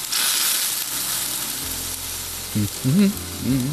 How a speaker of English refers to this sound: Apparently, for April Fool's today, the aforementioned video streaming company has put up what looks like a Netflix original movie, a feature-length video of a chicken roasting on a spit backwards, as in from cooked to raw. Here is the best scene.